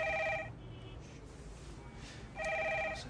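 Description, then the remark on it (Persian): A telephone rings twice, each ring a short, bright electronic trill separated by a pause of about two seconds, fairly loud, over a low background hum. “تلفن جواب بده.”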